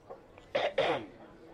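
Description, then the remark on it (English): Two quick, raspy throat clearings in close succession, moderately loud, with a brief quiet pause between them and no talking. “You're fucking clearing your throat.”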